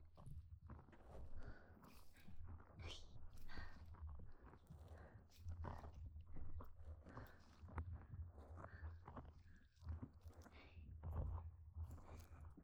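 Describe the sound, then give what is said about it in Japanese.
Wet chewing-like mouth sounds squish and crackle continuously, loud and intimate over a steady low rumble, with irregular smacking bursts throughout. “ほれ、もぐもぐ、もぐもぐ、悪い鳥は、ぜーんぶもぐもぐ。”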